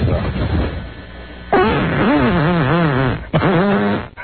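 Two loud fart sounds with a wobbling, rising and falling pitch: a long drawn-out one, then a shorter burst, after a moment of muffled background noise.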